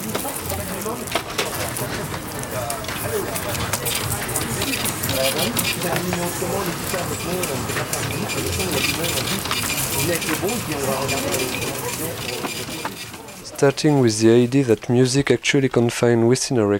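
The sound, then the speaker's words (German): Coins clink and money rustles in a dense, busy clatter of bright metallic jingles and papery hiss for several seconds, then a voice begins talking as the jangling fades. “und schließlich hin zu einem Klang, der wohl wie kein anderer die heutige Gesellschaft kennzeichnet, der Klang des Geldes. Von diesem emsigen und unermüdlichen Scheppern und Rauschen bleibt auch die Musikproduktion nicht verschont.”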